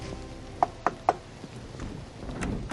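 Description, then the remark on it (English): Three quick, evenly spaced knocks on a wooden door, crisp, followed by a low rumble of background noise and no voices. “This is the one knock I dread, and it never gets easier.”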